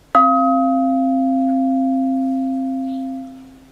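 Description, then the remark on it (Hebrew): A single strike of a small stick on a singing bowl, with a sharp attack followed by a long, steady ringing tone that slowly fades over several seconds, heard alone. “אני אשתמש קודם במקל הקטן, זה הצליל שהוא מפיק כשאני רק מקיש בקערה.”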